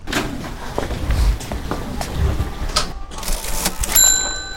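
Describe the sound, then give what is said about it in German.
A cash register at a clothing shop checkout as a mother and son pay for lederhosen and a shirt: a few clunks and rustles, then a bright ringing chime that sustains near the end, clear, with no talking. “Mutter und Sohn entscheiden sich, sie zu kaufen und gehen zur Kasse.”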